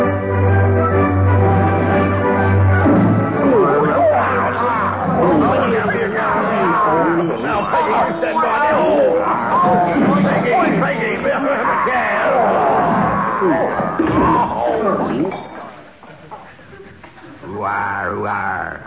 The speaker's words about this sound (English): It sounded like a young Barry Cryer was in that crowd scene.